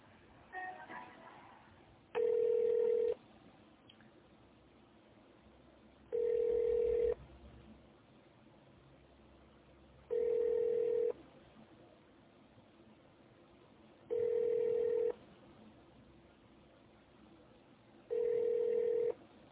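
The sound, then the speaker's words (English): A phone line rings repeatedly during a call transfer to a law department, five steady electronic ring tones of about a second each, spaced evenly with pauses between, heard clearly over a quiet line with no one talking. “Yeah, I'll get you connected with them so they can assist you further.”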